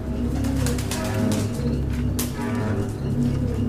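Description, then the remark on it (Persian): Several caged pigeons coo in low, overlapping murmurs, continuous, with occasional soft rustles and a brief flutter of wings partway through; no one speaks. “پرویز کنار قفسه پرنده ها افتاده”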